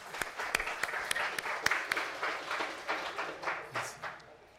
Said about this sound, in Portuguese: Sono bravissimi questi tecnici. Esses técnicos são muito bons. Eles merecem um aplauso.